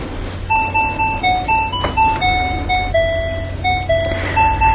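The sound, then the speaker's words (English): A Sony calculator's timer goes off: a bright electronic beeping melody plays alone, a steady run of high tonal notes stepping up and down in a simple tune, like a chiming alarm jingle, over a low steady hum. “So I think the timer is going to go off here in a second. The timer for the calculator, the Sony, wonderful Sony calculator.”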